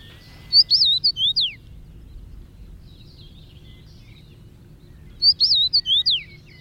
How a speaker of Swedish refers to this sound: men det är ju en ganska stor kraftig fink ändå, så att den. Och så har den en härlig sång. Vi kan lyssna lite på den samtidigt som vi pratar här.